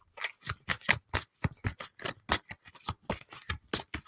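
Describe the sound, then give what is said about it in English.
Cards from a deck are shuffled by hand in a quick, steady rhythm of crisp papery swishes and flicks, fairly loud, repeating many times with no talking. “Wish I could shuffle like people to go... But my hands aren't big enough, especially with these decks.”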